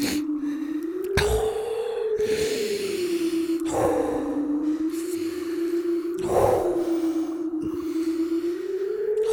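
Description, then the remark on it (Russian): Heavy breathing and blowing onto another person's face to warm it, with loud breathy gusts every second or two over a low steady hum. No one speaks. “Дыши как-нибудь потише.”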